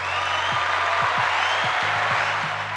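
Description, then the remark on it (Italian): A burst of steady applause from a small group for two guests in a studio, dense clapping at an even loudness that fills the whole moment, with no voices heard over it. “Doverosi applausi per entrambi”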